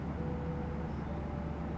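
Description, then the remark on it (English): A steady, unbroken engine drone fills the cabin of an airplane in flight at 3 in the morning, deep and rumbling with a faint tonal hum riding on top. “No, just, not used to being in aeroplanes. Cramped as hell in here.”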